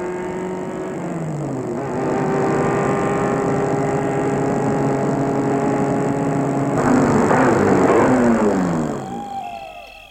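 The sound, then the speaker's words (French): A car engine hums steadily as the vehicle rolls along a path leading to a house at the end of a park, its tone rising and shifting, then a burst of crunching texture before the engine winds down and the car stops in front of the house. “La voiture s'est arrêtée devant la maison.”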